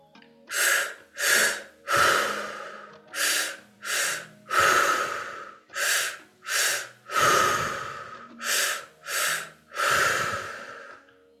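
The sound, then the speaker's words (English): Forceful breathing deep into the belly during a guided breathing exercise repeats in a steady cycle: two quick, sharp breaths followed by a longer, drawn-out one, about four rounds with no talking. “Continue to take the breath deep into your abdomen, deep into your belly.”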